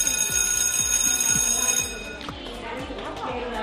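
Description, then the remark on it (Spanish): A loud electric school bell rings steadily with a rapid metallic rattle for about two seconds, then cuts off, leaving a murmur of voices and background noise. “Ese timbre va a volver a sonar el próximo lunes.”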